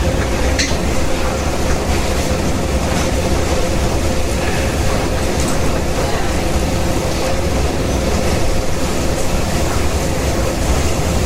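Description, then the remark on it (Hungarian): A metro train arrives and rumbles loudly through an underground station, a dense, steady roar of wheels and machinery that stays constant for the whole stretch. “Jön is a metró.”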